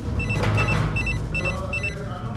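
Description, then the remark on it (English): A telephone rings with short, bright electronic trills repeating in quick pairs, heard over a steady low rumble of background noise, as Khalil, driving on a freeway, phones Omar, who holds the stolen briefcase. “Satisfied that no one is tailing him, Khalil phones Omar, who holds the stolen briefcase.”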